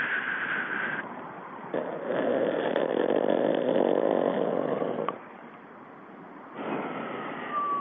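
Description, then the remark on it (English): A six-month-old infant snores in long, raspy breaths that swell and fade. The sound is muffled and thin, like a tape recording played back over a phone line. The tape was made at a sleep disorder clinic in Taylor, California. “All right, we're listening to the tape of a baby snoring.”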